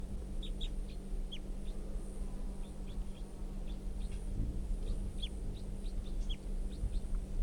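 A wild bird gives a series of short, high chirping calls at an irregular pace, fairly soft over a steady low hum and background rumble, with no talking.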